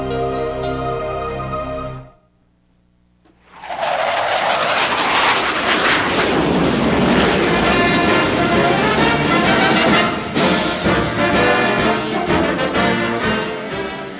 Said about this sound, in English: You had me ducking there. I thought that jet was coming right over our heads.